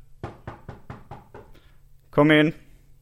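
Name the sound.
knocking on a door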